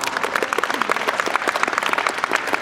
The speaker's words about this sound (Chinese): 给他一个掌声好不好？